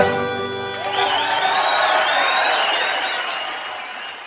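An audience breaks into loud, sustained applause and cheering at the end of a song, with dense clapping, rising whoops and whistles, while the last held musical notes ring underneath.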